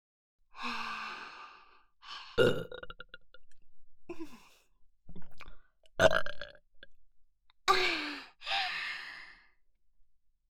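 burping

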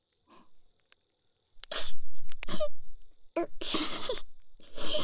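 sneeze

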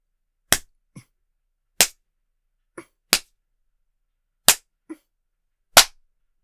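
spanking strikes

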